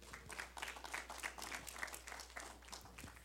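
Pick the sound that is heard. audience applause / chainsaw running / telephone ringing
audience applause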